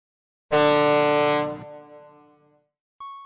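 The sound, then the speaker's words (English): A loud, buzzy electronic tone blares for about a second and rings out as it fades, then a single sharp, pure-pitched beep cuts in. No one speaks. “Ugh, where is that beeping coming from?”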